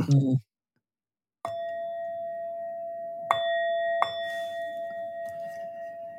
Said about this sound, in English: And partly what I'll do is use my just to get myself in the spirit of things, use my Tibetan bell. I hope that the sound will work.